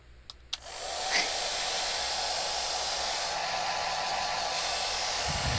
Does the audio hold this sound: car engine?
no